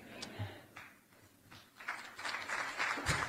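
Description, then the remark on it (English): Scattered claps from an audience at a press conference start hesitantly after a pastor's sermon and prayer, then thicken into steadier, fuller applause over a few seconds, at a moderate level with no voices. “Do we clap after a sermon?”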